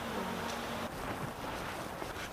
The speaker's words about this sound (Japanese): 波の音が聞こえる。波の音が聞こえる。